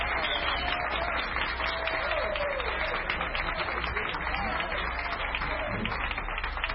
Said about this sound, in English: Very sensational guitarist. Let's give him a tremendous round of applause.